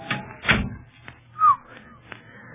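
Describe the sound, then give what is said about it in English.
An oiled door opens quietly: a soft thud and a heavier bump, a few light clicks, and one brief, faint creak partway through, with no voices. “See, that door's been oiled. Squeaked like the dickens the last time we used it.”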